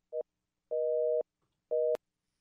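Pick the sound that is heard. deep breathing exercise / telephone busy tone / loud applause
telephone busy tone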